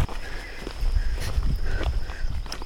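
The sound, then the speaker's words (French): Steady footsteps crunch along outdoors at an even walking pace as someone walks along a balcony-like path. They are moderately loud, over a low wind-like rumble and a faint continuous high whine. No one speaks. “On marche sur comme un balcon.”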